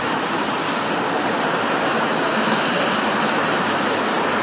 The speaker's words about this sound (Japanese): そこにバス停があって、今錦糸町行きのバスが出ていくところですね。都営07番っていう。